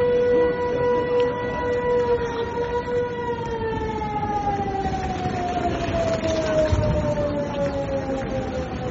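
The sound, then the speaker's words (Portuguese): An air raid siren in Ukraine wails loudly and continuously, its steady rising-and-falling tone slowly sliding lower in pitch, over a low background rumble with no voices. “Eu creio que a coisa que mais vai ficar nas nossas cabeças, não só ucranianos como estrangeiros que estavam lá, acho que eram os sons, os alarmes, os sons das sirenes, porque aquilo soava em 5, 10 minutos.”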